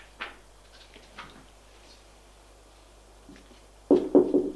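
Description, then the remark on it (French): Three firm, closely spaced knocks on a door at the end, preceded by a few faint, scattered taps against a quiet background; no one speaks. “On frappe à la porte.”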